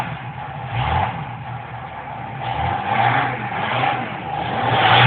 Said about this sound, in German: Wenn ich zum Beispiel jetzt im Auto sitze und habe jetzt einen tollen sportlichen Ferrari oder einen tollen Porsche und drücke aufs Gas, dann könnt ihr euch denken, was da passiert.